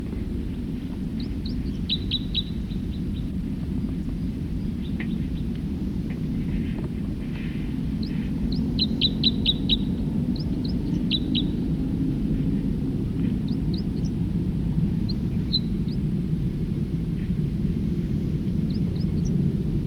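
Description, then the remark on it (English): A songbird sings in short bursts of high, thin notes, with quick clustered phrases and scattered single chirps, over a steady loud low rumble that runs throughout. “Start recording another songster.”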